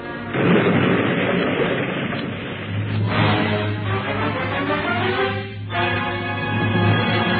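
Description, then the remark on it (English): A loud explosion, the blast in the murder of King Darnley: a dense roaring blast that keeps rumbling for several seconds over a steady low drone, with no voices. “Did you not hear that explosion?”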